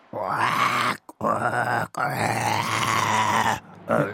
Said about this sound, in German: aber nächste Woche sind wir wieder für euch da, dann mit einer Menge Löwengebrüll. Ja, das klingt dann ungefähr so.